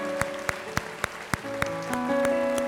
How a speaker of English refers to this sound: Would you applaud the Lord today for the greatness of who He is?